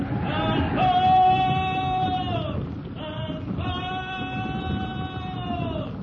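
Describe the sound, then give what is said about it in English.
A dense, continuous low rumble like many heavy feet pounding the ground as an elephant herd tramples, led away from a camp's boma by Tarzan, overlaid by long, wavering, high-pitched trumpeting calls that rise and fall in two sustained bursts. “The noise of their trampling decreases.”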